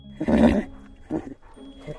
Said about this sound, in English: I turned to look back at poor Vixen, and she gave me a little neigh of farewell.